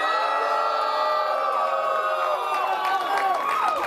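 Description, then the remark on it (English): A large audience at a speaking event cheers and whoops loudly and steadily for their moms in a standing ovation, a dense wash of voices with rising shouts and some clapping mixed in, sustained without a pause. “Okay, see, what I just did was I staged a perfect video so that when other people want to hire me to speak, they're like, holy shit, who gets a standing ovation like that?”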